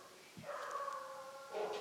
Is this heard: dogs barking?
yes